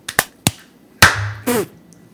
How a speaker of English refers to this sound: Were you clapping late on purpose?